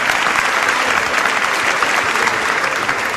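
Steady, loud applause from an audience fills the whole stretch, a dense wash of many hands clapping at once with no pauses and no voices standing out.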